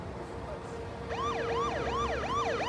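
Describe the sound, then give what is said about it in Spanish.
A police patrol car siren starts up after a brief low hum, cycling in quick rising and falling wails, steady in loudness, as the patrol car arrives at a house. “Siegel llamó a la policía. Cuando la patrulla llegó, Siegel esperaba afuera de su casa.”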